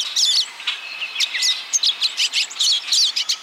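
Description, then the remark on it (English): A pine siskin chatters in a steady run of high, twittering chirps and short buzzy notes, clear, with no voices over the birdsong. “Pine siskins, in particular, are prone to salmonellosis, a deadly bacterial disease easily transmitted from bird to bird.”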